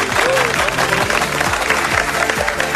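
An audience applauds steadily, a dense wash of many hands clapping at a constant loudness for a few seconds, with some low background sound underneath.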